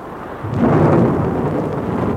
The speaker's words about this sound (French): Le tonnerre éclate. Il tombe quelques gouttes.